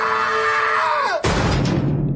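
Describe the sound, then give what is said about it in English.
A man's loud, sustained death scream from a film slides downward in pitch and is cut off abruptly by a harsh burst of noise, like a crash, that trails away over the next second. “Here's the scream death of that dude.”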